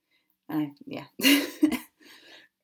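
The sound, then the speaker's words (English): A few raspy coughs and a rough throat clearing in quick succession, one burst sharper and louder than the rest, followed by a softer, breathy clearing sound. “Oh, I do apologise for my voice. Cough and everything.”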